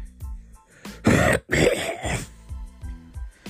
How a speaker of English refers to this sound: Throat clear. That's a new effect we're going to add now.